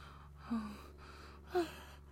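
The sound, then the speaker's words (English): A woman gasps twice as liquid pours onto her hot skin: short sharp intakes of breath about a second apart, fairly quiet, over a faint steady background hum with no talking. “Watching the red nectar pour, she gasps at the liquid taking to her hot skin.”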